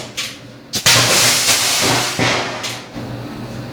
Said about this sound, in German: So, hier schöner Knall, Feuer, Rauch, volles Programm. Die Temperatur sehen wir jetzt schon auf über 600 Grad und steigt immer noch. Ja, jetzt sind wir knapp unter 700 Grad. Die ganze Zelle glüht und raucht immer noch.